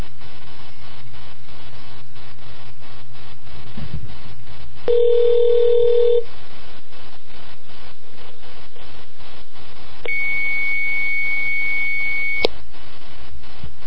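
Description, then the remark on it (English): A phone call to a Haitian hotline rings out unanswered, two long electronic ringback tones separated by a pause, heard over a faint background hum with no voices. “Do I have a phone call for us? Let's see. I guess we can go ahead and call up our good buddies”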